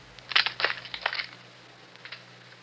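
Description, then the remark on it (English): Several arrows are snapped in quick succession as Chiricahua council members break their arrows to give consent, a cluster of sharp, dry wooden cracks and crunches, followed by a couple of fainter snaps after a short pause. “If so, break your arrow.”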